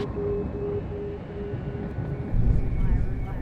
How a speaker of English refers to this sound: That's scary to have this helicopter hovering around.